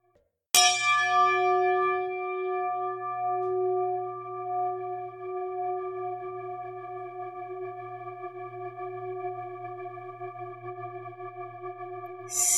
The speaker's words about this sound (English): Spirit chime means spirit time.